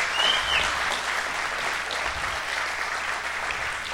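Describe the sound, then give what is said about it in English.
A crowd at an evening religious gathering applauds for Jesus with dense, steady hand clapping that stays fairly loud throughout, with a brief high whistle near the start and no voices talking over it. “Let's give Jesus one big hand clap tonight for bringing us together.”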